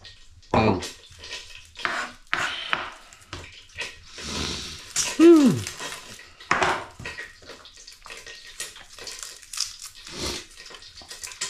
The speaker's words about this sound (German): Okay, oh, da brauche ich mal kurz einen Schluck Wasser. Ah, das hilft nämlich immer.